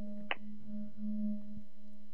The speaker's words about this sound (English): All right. Now the bowls are coming. Tibetan bowl coming out for you here